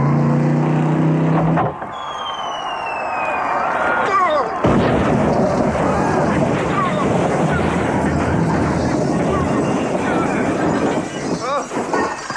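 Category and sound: vehicle, motorcycle engine roaring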